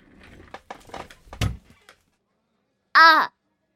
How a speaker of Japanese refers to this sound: わかるよ。いきなり何それって感じだよね。思わず椅子も倒すよね。